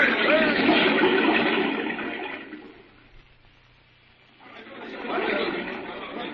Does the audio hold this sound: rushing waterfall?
yes